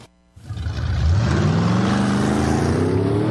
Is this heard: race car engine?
yes